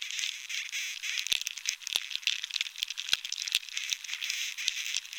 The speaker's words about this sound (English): But without water, there's no sap, and soon the beetles are drilling and breeding and making more of a racket. Here's Dunn's recording of a moderately infested tree.